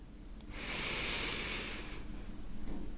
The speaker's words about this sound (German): Und damit darfst du einmal mit mir gemeinsam ganz, ganz tief einatmen.